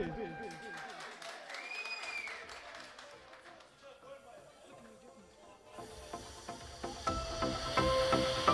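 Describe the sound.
An amplified voice announces the next singer at a musical evening, then the audience bursts into a dense, steady round of applause, many hands clapping together and growing louder through the final seconds.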